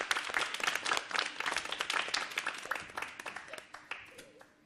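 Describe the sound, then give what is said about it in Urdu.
A crowd applauds to welcome a Team A member, with dense, rapid clapping that holds steady for several seconds, then thins out and fades toward the end. “تالیوں سے استقبال.”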